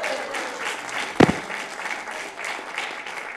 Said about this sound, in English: All right, can you guys give Herod a round of applause?